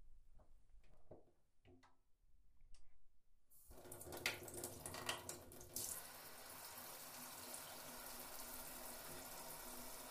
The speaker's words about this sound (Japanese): それじゃあ、シャワー出しますね。暑かったりしたら言ってください。